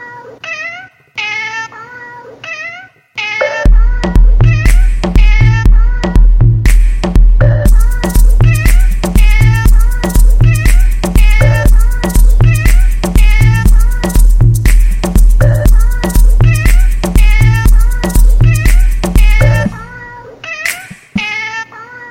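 A cat meows over and over, loud, first in a few scattered cries and then in a rapid string riding on a steady, thumping rhythmic beat that stops near the end.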